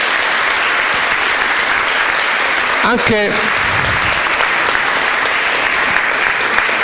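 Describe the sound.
Sustained, dense applause from a large audience welcoming a guest fills the whole stretch, loud and steady, with a brief voice calling out partway through.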